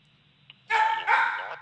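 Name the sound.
dog barking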